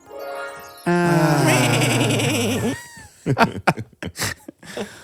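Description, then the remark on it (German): A long, loud, quavering goat bleat rings out over a short musical jingle, lasting about two seconds before a voice starts talking. “Alright, also Ziegenthema.”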